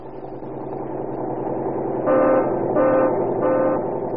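The engine of a modern interurban bus rolling on pneumatic tires along a concrete highway rumbles steadily, then the horn sounds three short honks in quick succession over the continuing motor drone.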